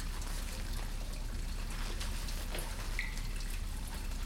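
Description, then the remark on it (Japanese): Cherry-blossom soap, coloured and shaped like cherry petals and scented with cherry blossom, being lathered into plenty of foam with water: a steady wet swishing and squelching that runs without a break, soft but continuous, with no voices. “この桜の石鹸でたっぷり泡を作っていきます。”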